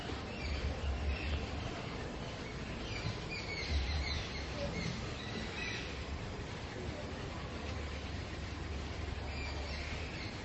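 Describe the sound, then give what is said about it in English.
Faint birds chirping outdoors, scattered high calls rising and falling over a steady background hiss, all quiet. “You know, because it's just like, let us say we're very sensitive to sound, so we could be distracted by those birds.”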